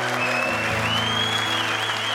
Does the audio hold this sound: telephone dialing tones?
no